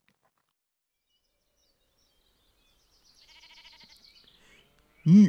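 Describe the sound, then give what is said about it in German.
A sheep near a stable bleats, first a thin, quavering call at moderate volume, then, after a brief pause, a much louder bleat that cuts off abruptly at the end. “Ui, schau, ein Schäfli ist davon gerannt, gerade zum Esel dort zum Stall.”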